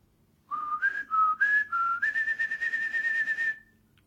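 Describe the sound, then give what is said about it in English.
A person whistles a blackbird's song, the tune sung by a blackbird in a house's garden: a few short rising and falling notes, then a long, warbling, steady high note held for over a second before it stops. No talking. “That's the tune sung by the blackbird in the garden of the house I grew up in.”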